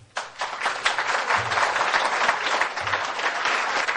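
clapping

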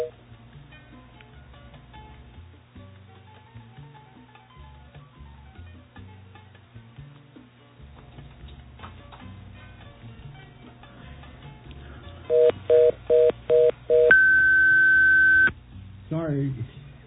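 telephone dialing tones

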